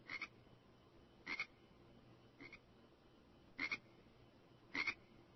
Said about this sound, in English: Hear the crickets?